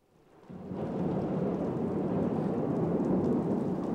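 Steady, heavy rain swells in within the first half second, then pours on as a dense hiss over a deep, rolling thunder rumble, with no voices.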